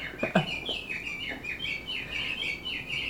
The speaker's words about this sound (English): This one will do. An English friend gave me that one, which is Japanese birds.